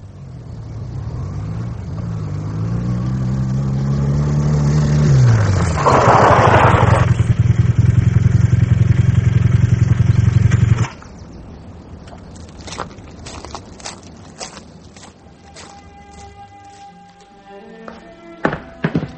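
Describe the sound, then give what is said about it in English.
A motorbike engine revs loudly, its pitch climbing and dipping for about ten seconds before cutting off abruptly, followed by a few scattered clicks and thunks. “He took off 10 minutes ago. Where? No idea. On his motorbike.”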